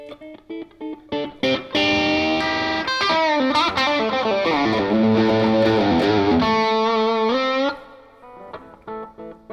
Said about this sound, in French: Et on va avoir une pédale d'overdrive verte classique. Au niveau de la réactivité et de la dynamique de jeu, c'est une excellente pédale d'overdrive.